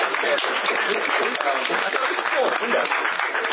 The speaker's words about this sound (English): Hey, yo, can we offer a round of applause for the cool laptop and writing person?